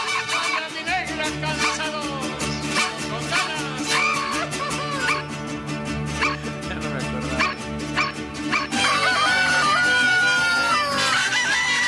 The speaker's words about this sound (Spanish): ¡Ahí está el gallo! ¡Gallo! ¡Gritón! ¡Disfruten!